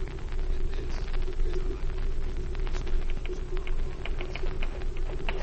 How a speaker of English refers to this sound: He asked me if I would type a few important letters for him that had to go out before Monday. I said, sure, and use your old typewriter in his office. I was typing away...